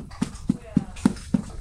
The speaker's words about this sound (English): That's a horse smacking its lips together.